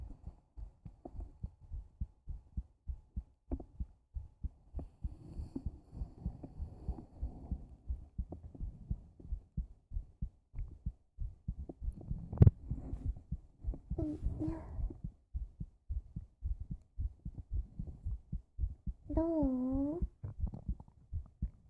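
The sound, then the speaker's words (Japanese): A steady, quick heartbeat thumps close up and muffled, as if heard right against a chest, continuing throughout with a brief spoken word and a short mew-like sound near the end. “結構ドキドキしてる？”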